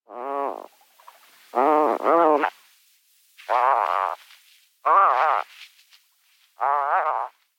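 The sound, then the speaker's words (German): Five harsh, rasping bird calls with a snoring quality, each under a second long and separated by short pauses. They are raspy yet tonal and fairly loud, and no one speaks. “Und da haben wir euch natürlich auch die Stimme mitgebracht, weil es einfach die Rufe zu süß sind, zu knuffig, wenn die so schnarchen.”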